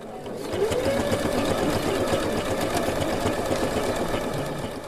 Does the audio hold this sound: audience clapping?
no